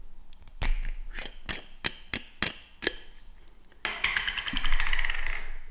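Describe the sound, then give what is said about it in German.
A tin can being opened: a run of sharp, metallic clicks with a slight ring, roughly evenly spaced, then a longer stretch of harsh scraping and rustling metal. No one speaks. “Du wunderst dich wahrscheinlich jetzt, warum ich hier gerade eine Dose aufmache.”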